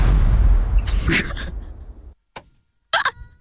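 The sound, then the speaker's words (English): A person voices a cannon shot with their mouth, using the diaphragm: a loud, low, breathy burst that fades out, followed by two short sharp bursts after a brief silence. “Now you try cannon shot this time.”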